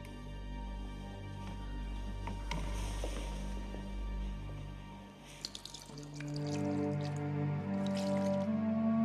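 Water drips and splashes with soft squishing, wet sounds as a mother washes the church's holy water from her daughter's head after a baptism, over a low steady hum; no one speaks.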